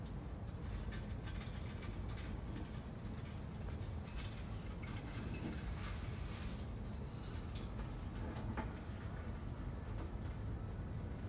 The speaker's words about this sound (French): Une pluie torrentielle qui coulait le long des façades et inondait les escaliers. Elle ruisselait sur ses corps de pierre